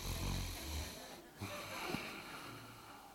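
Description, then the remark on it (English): A person breathes in an exaggerated, heavy way that imitates snoring: a few long, rasping breaths with a low, rumbling buzz, moderately loud, with no talking. “It is possible that when our children were babies and they would wake up in the middle of the night, that I might have chosen to breathe a little heavier.”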